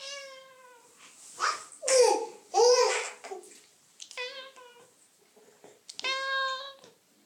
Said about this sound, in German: wie klingt es eigentlich, wenn man eine Katze jagt?